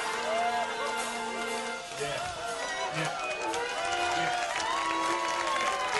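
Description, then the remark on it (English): Steady, dense applause from a studio audience, mixed with cheering and crowd noise throughout, with a few excited voices and whoops rising above the clapping. “Man, I would imagine that the light on the applause light is about to burn out because it's just like, we're pushing it too hard.”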